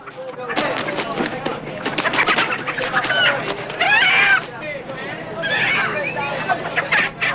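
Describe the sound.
A cockfighting rooster held by a man on a crowded bus squawks and clucks a few times amid a dense, noisy crowd, its calls rising briefly above the steady babble of many voices talking at once.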